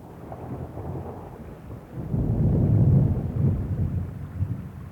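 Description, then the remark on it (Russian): Heavy rain pours steadily while deep rumbling thunder swells up halfway through and rolls on to the end, full, with no voices. “через некоторое время вышла и под сильным дождем поплелась к дому Незакят”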